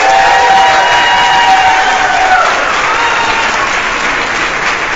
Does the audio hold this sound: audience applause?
yes